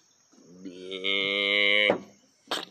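A cow lets out one long, drawn-out moo, loud and steady for over a second before cutting off, followed moments later by a brief noisy burst.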